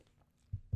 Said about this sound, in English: Sorry, I had to get a swig of water.